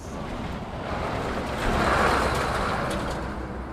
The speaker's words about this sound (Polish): Ta ciężarówka jedzie w kierunku granicy gruzińsko-rosyjskiej, granicy z Federacją Rosyjską, która jest tuż obok, bo 12 km raptem od Stepantsmindy.